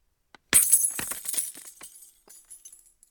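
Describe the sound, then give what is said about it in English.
A small tick, then keys dropped down a huge well crash onto lots of glass at the bottom with a bright, jangling clatter that scatters into tinkling clinks, fading over a couple of seconds. No voices. “Dropping your keys down a huge well with lots of glass at the bottom.”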